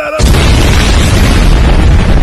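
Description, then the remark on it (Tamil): A rocket blows up partway through its flight and scatters, with a sudden loud blast, followed by a sustained roaring, crackling rumble that fills the rest of the moment, heavy, with no voices. “வெடித்து மீண்டும் சிதறிய சிதறிடுச்சு.”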